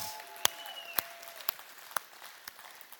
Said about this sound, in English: Okay, like the worst team in the universe scored a touchdown against the team that I don't like, and I would cheer louder than that. So let's give God a real hand on that one, please.